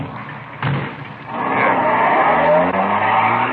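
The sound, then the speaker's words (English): A car engine revs up and its tires squeal loudly as it peels away, the screech rising and holding steady for a few seconds after a brief thump at the start. “Here's the car. Let's go. Ben, you drive.”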